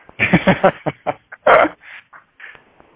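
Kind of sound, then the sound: animal, dog barking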